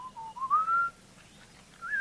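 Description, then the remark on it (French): A honey hunter's melodious whistle, as used by Hadza hunters in Tanzania and Borana hunters in Kenya to attract the honeyguide bird and keep contact while following it: a rising, wavering tone that swells, drops away, then returns briefly at the end. Clear, with no talking. “Et les chasseurs Hasda en Tanzanie, comme les chasseurs Borana au Kenya, utilisent un sifflement particulier pour attirer l'oiseau et pour maintenir le contact avec lui pendant qu'ils le suivent.”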